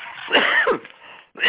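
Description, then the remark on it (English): A harsh cough burst with a throaty rasp, followed by a brief pause and the start of a second cough at the end. “So, excuse my cough, folks.”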